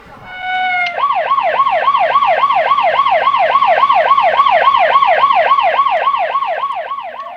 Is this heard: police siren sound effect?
yes